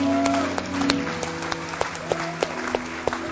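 An audience claps for people who raised their hands to be prayed for, a dense wash of hand claps with sharper individual claps standing out at irregular moments, over a low steady hum, with no one speaking.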